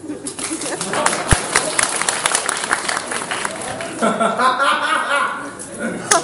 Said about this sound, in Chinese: 感谢您的掌声。